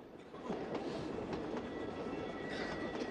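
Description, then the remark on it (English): A train rolls steadily along the tracks at night, a continuous rumbling roar with a faint rhythmic clatter of wheels over rail joints, fairly loud, with no voices. “Now night has fallen, and the train continues on its inexorable journey.”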